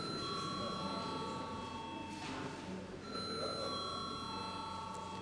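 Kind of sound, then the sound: signal or alarm, parliament voting bell ringing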